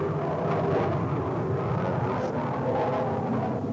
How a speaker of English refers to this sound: A lot of planes going out from the base out here this morning, so if y'all hear the noise in the background, don't pay any attention to it.